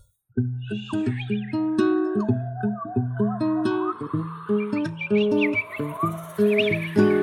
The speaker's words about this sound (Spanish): Chipá, chipá, pajarito.